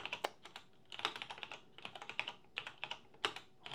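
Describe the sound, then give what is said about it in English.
Rapid, uneven typing on a computer keyboard with clustered key clicks in short bursts, fairly quiet, with no one speaking, as the keyboard is used to change the pen color and the sprite color. “Use the keyboard for this, maybe.”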